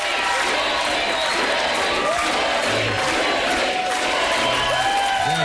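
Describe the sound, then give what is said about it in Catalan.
The studio audience of Jimmy Kimmel Live on ABC applauds and cheers without a break, welcoming Jimmy Kimmel back, a dense wash of clapping with whoops and shouts rising above it, loud and sustained for nearly a minute and a half. “Així és, el públic del programa el va rebre en Jimmy Kimmel amb un aplaudiment de prop d'un minut i mig i en dedica ell se'l veia ben emocionat.”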